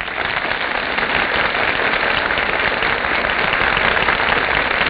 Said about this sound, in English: That applause, ladies and gentlemen, is the audience's greeting to our stars who are now entering from the wings.